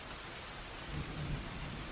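nature, rain with thunder

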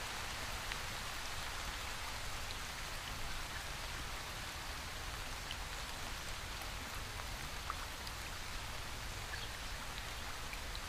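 nature, waterfall

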